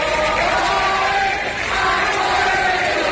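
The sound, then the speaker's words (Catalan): A large crowd in Andalusia shouts the rallying chant "A por ellos" in unison, loud and sustained throughout, many voices blending into a dense roar that dips briefly midway before surging again. “Bé recordem que d'Andalusia venien els crits de la Por Ellos, no?”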